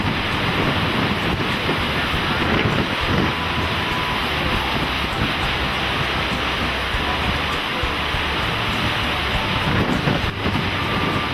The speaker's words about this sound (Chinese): 海浪攀上岸滩的呼呼风中掺杂着沙子，吹在人的脸上身上，似乎在诉说着那一个个无奈的故事。